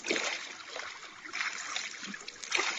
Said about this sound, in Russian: Алешка ступил в качнувшуюся ладью. Елена вошла в воду так, что намочила край туники, и оттолкнула ладью от берега.